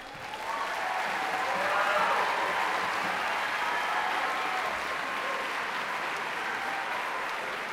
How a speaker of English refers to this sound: And most importantly, I'd like to thank our very, very talented students. Your work is applauded tonight. We are so proud of you.